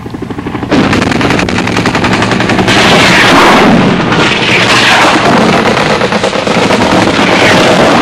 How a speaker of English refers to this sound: Huey gunships, armed helicopters follow the artillery in, raking the landing zone with machine guns and rockets.